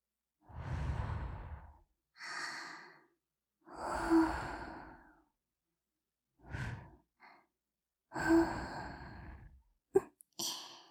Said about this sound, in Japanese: 息吹きかけられてじらされるの、嫌いじゃないですよね。